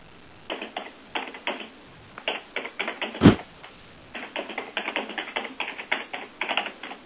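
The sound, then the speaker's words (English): Rapid keyboard typing in quick bursts of clicking keystrokes, pausing briefly between flurries, with one louder thump partway through. Clear, with no one talking. “Is someone typing in a name?”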